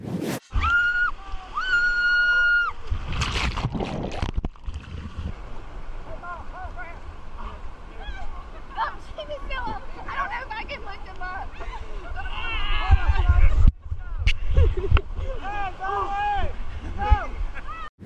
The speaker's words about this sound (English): His GoPro captured the rescue after his boat flipped over.